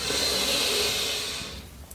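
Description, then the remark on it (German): A long, steady deep breath drawn in during a guided breathing exercise, a soft airy hiss lasting over a second before trailing off into quiet. “Wir nehmen einen tiefen Atemzug und atmen ein.”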